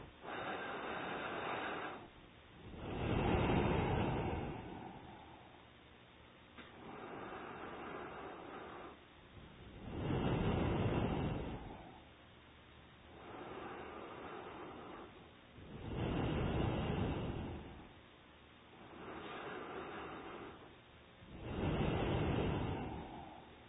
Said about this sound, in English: So now third round, from both nostrils. Inhale, exhale. Okay. So it end with exhale. It begin with inhale and each the 3 round. Each round begin with inhale, then end with exhale.